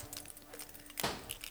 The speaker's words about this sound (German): Sie verharrte im Türrahmen und spielte mit ihrem Schlüsselbund.